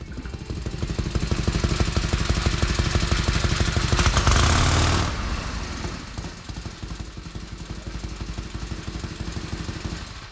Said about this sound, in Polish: To jest Harley Davidson 26 roku. To motocykl unikatowy w naszym województwie chełmskim. Chyba najstarszy w tej chwili jeżdżący motocykl. Restaurowałem go 2 lata. Wygląda tak, jak wyjechałby dopiero z fabryki. Jeździ bardzo dobrze.